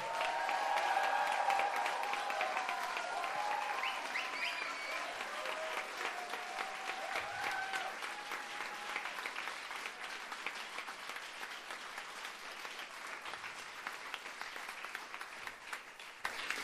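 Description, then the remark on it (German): A poetry slam crowd bursts into sustained applause to vote for a finalist, with some cheering and whistles, loud and dense at first, then settling into steady clapping that continues for the full stretch without a break. “Dann klatscht Leute können bitte jetzt!”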